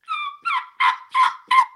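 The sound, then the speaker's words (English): Five sharp, high-pitched yelps imitating a young turkey hen, made on a three-reed turkey mouth call with a slit tear-out cut, evenly spaced, each a clear raspy note shaped by tongue pressure, with no talking over them. “Young hen is going to be clear.”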